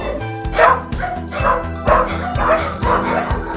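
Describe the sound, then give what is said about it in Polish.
Puppies bark and yip in quick overlapping bursts in the puppy room of an animal centre, roughly four clustered outbursts in a steady rhythm, fairly loud, with a busy indoor background hum. “A tutaj to pomieszczenie obok, to co to jest jeszcze? To jest szczeniakar.”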